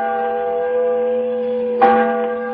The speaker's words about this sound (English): And the voice of a great bell proclaiming liberty.